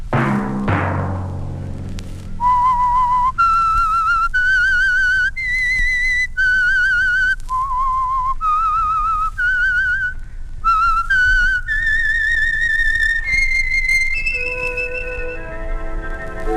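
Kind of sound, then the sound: signal or alarm, whistled signature theme melody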